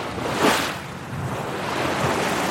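Ocean waves wash steadily against a shrimp boat at sea at night, with one louder surge near the start, then a constant broad hiss of water and wind. No voices are heard.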